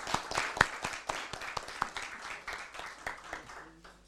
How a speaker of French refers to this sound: Merci bien, et je pense qu'on peut l'applaudir.